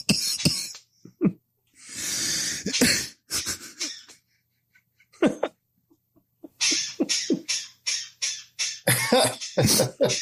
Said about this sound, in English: Is the baby sick? You coughing over there? That was her coughing. That's her fucking coughing.